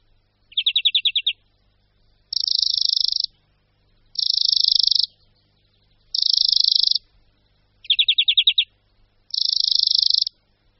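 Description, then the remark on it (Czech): A European greenfinch sings alone in six bright, ringing trilled phrases at a high pitch, alternating two slower pulsed trills with four faster, buzzier ones, separated by short pauses. “Je to skutečně různě rychlé trilkování zvonivého charakteru.”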